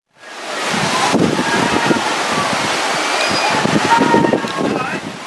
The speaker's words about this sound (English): By the 15th of December 2010, Christmas Island had entered its monsoon season and conditions in the water were rough. The force of the waves was too much for CF221, a boat carrying 92 people, mostly asylum seekers, from Iran and Iraq.